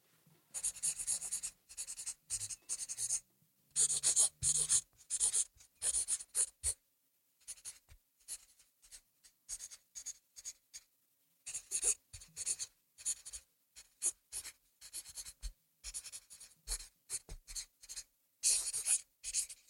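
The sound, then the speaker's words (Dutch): A pen scratches steadily across a small canvas in short, quick bursts of strokes with brief pauses between, fairly crisp, with no voices. “Kijk, we merken dat we voor het eerst een echte schrijver hebben, want er wordt veel gepend.”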